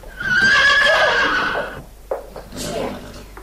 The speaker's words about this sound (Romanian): Un cal.